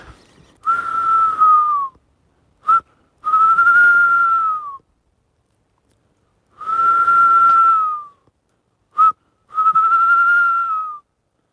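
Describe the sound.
A person whistles an imitation of a tawny owl call twice: each time a long, steady mid-pitched note that sags at the end, a brief blip, then another long drawn-out note, with no talking.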